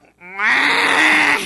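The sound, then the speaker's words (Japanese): A person imitates a water buffalo's call with a single drawn-out, moo-like bellow that swells from a low start into a loud, strained, nasal tone, alone. “あの、はい、水牛の鳴き方やって。”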